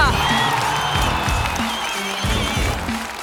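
A crowd at a freestyle MC battle applauds and cheers the winner steadily, a dense wash of clapping with scattered whoops and shouts rising above it, holding at a fairly loud, even level throughout.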